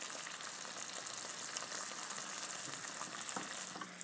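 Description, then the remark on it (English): Chicken frying in a pan at home: a steady, hissing sizzle with a dense scatter of small pops and crackles throughout, fairly loud and unbroken, with no voices. “I am cooking chicken. Listen to this.”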